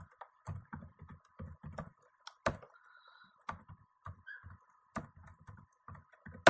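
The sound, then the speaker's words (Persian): Clattering computer keyboard typing in quick bursts of keystrokes with short pauses, a few sharper single clicks standing out, as a Google search for the Golestan system of Tabatabai University, Tehran is typed; no one speaking. “کاری هم نداره، میتونید تو گوگل بزنید که سیستم گلستان دانشگاه مثلا دارم خدمتتون عرض میکنم الان به طباطبایی تهران.”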